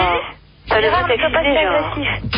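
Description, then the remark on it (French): A radio plays in the background during a group debate, carrying a thin, tinny voice that talks continuously after a brief pause near the start, moderately loud and muffled in tone. “Alors celui qui a la radio derrière, il arrête.”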